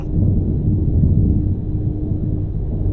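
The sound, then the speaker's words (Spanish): Distant thunder rumbles low and steady for the whole stretch, a deep rolling roar with no sharp cracks and no voices. “Fue ahí cuando escucharon la tormenta. Lejana, pero retumbando en lo alto.”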